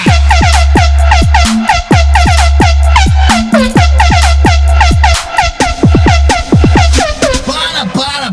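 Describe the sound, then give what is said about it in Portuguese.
Loud Volvo truck air horn blasts repeat in a rhythmic pattern, their bright, harmonic tones sliding downward, over a heavy, pounding bass beat that continues without pause. “Agora, deixa com o Volvo cabuloso. Assustou? Tome mais um pouco.”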